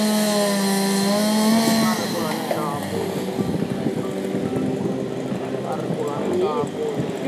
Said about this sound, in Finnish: Ja täällähän kuuluu tietysti ihmisten ääniä ja kaikkea muutakin, mutta ennen kaikkea tuo moottorissahan, kun on tämä karhunveistokilpailu menossa. Kohta sieltä taas surahtaa sahaa, kuunnellaanpa sitä.